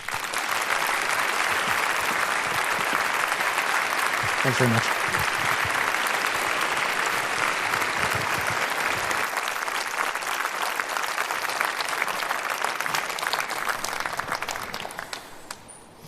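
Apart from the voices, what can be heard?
audience applause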